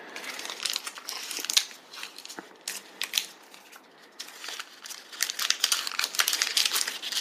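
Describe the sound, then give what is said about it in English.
A plastic candy wrapper crinkles and crackles steadily for several seconds as it is pulled open to get out a new crunchy cookie candy with Oreo, with bursts of sharp, bright rustling that swell and ease off. No one speaks. “All right, I'm getting mine out because it's big.”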